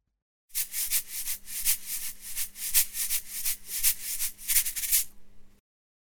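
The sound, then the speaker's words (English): A snake hisses in a steady series of breathy, sharp bursts, about ten pulses in quick succession, close and fairly loud with no voices. “Snake.”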